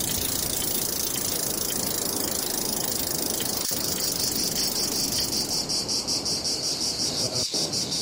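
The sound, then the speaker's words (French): Cicadas chirp in a dense, loud, high-pitched buzzing drone that fills the whole stretch, turning into a rapid rhythmic pulsing near the end. No one speaks. “Voilà, vous aurez tous reconnu une roue de vélo, en tout cas des cigales.”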